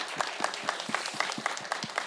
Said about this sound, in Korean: 앞으로 그 일들을 정말 정말 아름다운 그 일들을 열심히 또 행복하게 해나갈 수 있도록 우리 컨벤션과 컨벤션 밴드에게 큰 박수와 환호로 응원해드렸으면 좋겠습니다.